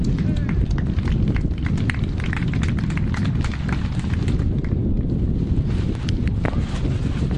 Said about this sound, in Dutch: Beste mensen, door het geruis van de wind heen ga ik me proberen verstaanbaar te maken.